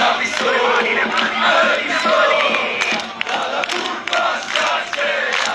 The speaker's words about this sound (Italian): Ma direttore, ma non ci posso credere, avete sentito l'audio, no? Questa tifoseria del Pistoiese.